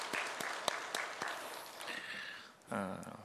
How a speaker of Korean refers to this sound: 영광의 박수 올려드리겠습니다.